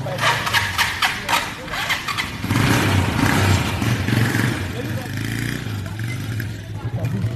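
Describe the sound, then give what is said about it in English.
A motorbike engine runs on a muddy rural path in Ivory Coast, its low rumble swelling as it revs and then settling back, with some clattering and faint voices underneath. “I think we're going on a couple of motorbikes because the roads are pretty poor around here and our big 4x4 can't make it through.”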